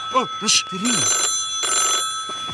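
telephone ringing

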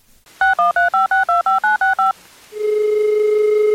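telephone keypad dialing tones

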